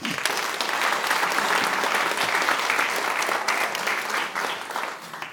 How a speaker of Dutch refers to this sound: En geef even een applaus aan Edwin.